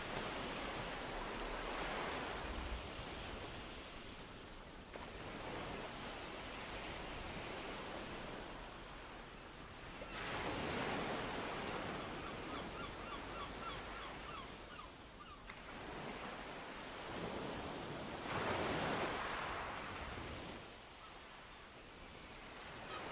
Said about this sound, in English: Close your eyes and listen to the serene music of the outgoing tide. The gulls calling. Listen.